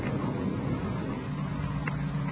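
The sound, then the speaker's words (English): A car coming up a road toward the listeners at a meeting place in Elysian Park around 5 a.m., as thunder sounds and rain starts. Its low engine rumble holds steady and fairly faint throughout, with no voices and a broad hiss of outdoor noise around it. “The car coming up the road toward us, sounds like.”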